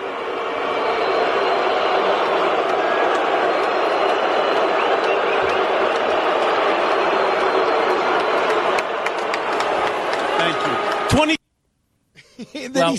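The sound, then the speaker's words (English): A stadium crowd of about 10,000 people boos Rob Manfred in a loud, steady, unbroken roar of many voices for about eleven seconds before it cuts off abruptly into silence. “Because they're booing, yeah.”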